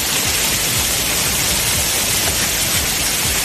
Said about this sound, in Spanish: Ríos de agua en sus calles, inundaciones en casas y comercios y coches arrastrados por la corriente.